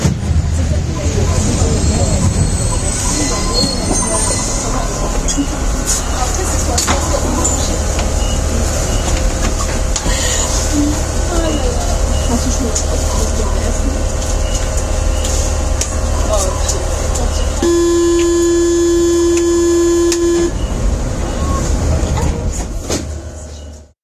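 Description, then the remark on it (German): A subway train on Line M1 rumbles steadily with station noise, then a loud, sustained electronic door-closing warning tone sounds for about three seconds near the end before cutting off. “Das, was ihr gehört habt, ist der Ton, wenn der kommt, dann müsst ihr sofort aus der Tür raus.”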